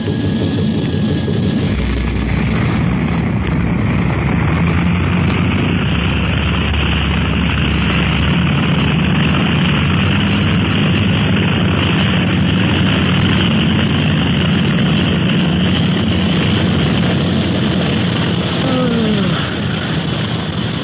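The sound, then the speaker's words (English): A propeller airplane engine roars steadily, a loud, dense drone with a throbbing low rumble that holds constant for the full stretch as the plane takes off after clearing the boats, with no voices present. “We're clear of the boats now, Clint. Yeah. All right, then. Up we go.”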